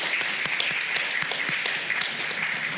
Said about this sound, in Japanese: 立ってください。皆様励ましの拍手で。 大家一个鼓励的掌声。